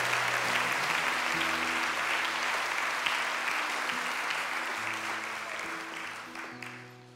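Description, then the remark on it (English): An audience gives Jesus a clap and a shout in the morning, breaking into loud, sustained applause with scattered shouts and cheers, a dense wash of clapping over steady low organ or keyboard chords, gradually easing toward the end. “Can we give Jesus a clap this morning and a shout?”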